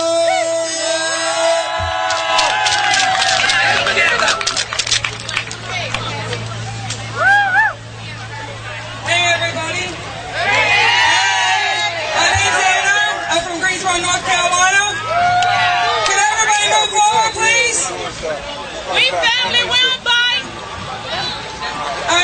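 A loud crowd cheers and whoops continuously as a fast food worker leader from North Carolina is brought to the stage, with shrill voices rising above a dense, steady roar of many people, sustained for the whole stretch without pause.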